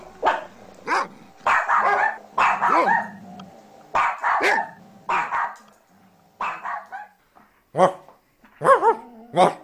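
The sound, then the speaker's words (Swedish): A string of loud barks in quick irregular bursts, about a dozen in all, with the final barks voiced by a person imitating a dog. “Den sista bjeffen där är inte en ordentlig hund.”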